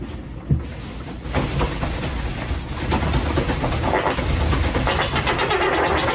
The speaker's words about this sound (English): I mean, you can kind of hear what he's doing. He's standing on one leg, shaking his other leg really quickly as he farts. That's what's producing that fart sound.